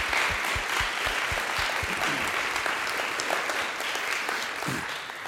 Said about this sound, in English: Yeah, let's just offer a clap offering for these guys. Thank you.